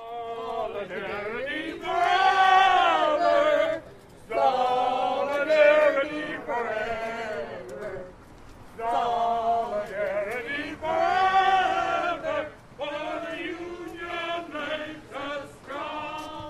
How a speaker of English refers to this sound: led the crowd in chants as they marched a loop along Main Street.